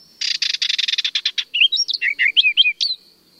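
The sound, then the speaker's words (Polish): A barred warbler sings alone: a fast, dry, chattering run of repeated notes gives way to a varied warble of short, high, twisting phrases, lasting about three seconds. “Najłatwiej jednak pieśń Jarzębatki rozpoznać po wplatanym między zwrotki ostrzegawczym, trzeszczącym terkocie.”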